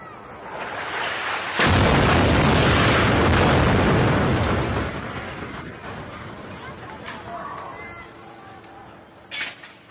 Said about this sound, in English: The Mecca residential tower in western Gaza City was bombed by the Israeli army also on September 29th. Journalist Khamis Al-Rafi captured the explosion on video.